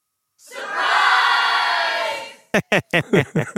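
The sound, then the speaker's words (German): A canned crowd cheer sound effect, played by pressing a cheer button, swells in, holds loud and steady for about two seconds, then cuts off abruptly, followed by a man beginning to speak. “Das könnten Sie mal Ihren Jubelknopf drücken, weil das ist doch eigentlich eine klare Key-Message.”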